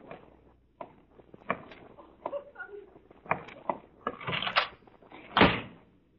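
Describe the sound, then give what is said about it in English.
A door is handled as someone leaves: a series of clunks and rattles as it opens, ending in a firmer thud as it shuts, with faint movement around it. “A moment later, I'm going to turn around, and you will have gone quietly out of the door.”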